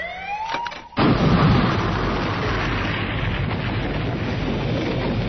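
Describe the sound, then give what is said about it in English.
A rising electronic whine builds for a moment, then a loud explosion bursts in and trails into a long, roaring rumble that stays strong to the end. No voices are heard. “The explosion lit the sky, tore a hole across the Triad fleet.”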